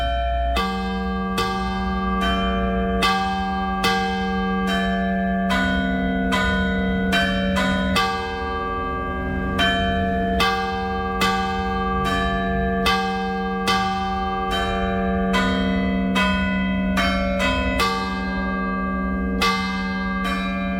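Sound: church bell ringing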